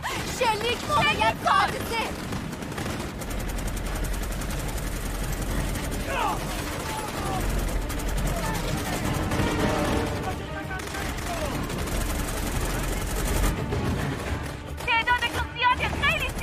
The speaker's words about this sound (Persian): شلیک خیلی زیاده. مادر، دارم بهمون شلیک میکنن.